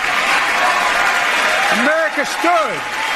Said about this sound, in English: Kamala stood. And clapped.